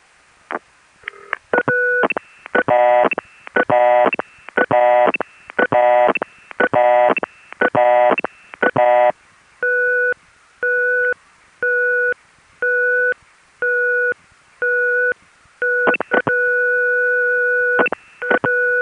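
A rapid run of layered electronic telephone beeps in regular bursts gives way to a steady, evenly spaced beeping pattern like a busy signal, with a longer held tone near the end. Loud and clear, no talking. An unusual phone company test line on the 333 exchange in Chicago's area code.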